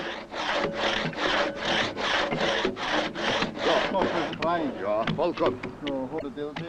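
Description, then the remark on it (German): A file rasps rhythmically across saw teeth, about nine quick, even strokes, then the filing gives way to a man speaking. “Zuvor müssen die Sägezähne neu geschärft werden.”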